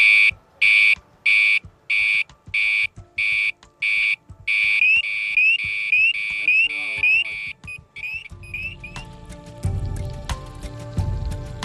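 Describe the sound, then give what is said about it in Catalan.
A firefighter's breathing apparatus low-air warning, signalling 150 of air left, sounds as a loud, high-pitched electronic beeping, first in regular pulses, then a faster warbling tone, before fading into rumbling noise and muffled activity. “Si et pita una alarma, vol dir que et queda 150.”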